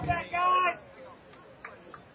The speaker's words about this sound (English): Pretty vocal crowd here tonight. Of course, we're out in the middle of them here, but it's fun to hear this kind of enthusiasm.